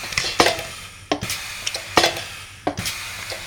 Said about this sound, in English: This machine now is stressing the ball by pressing it to 75% of the mean diameter. So it's pushing it down into the water, compressing the ball, and then rolling it around in the water.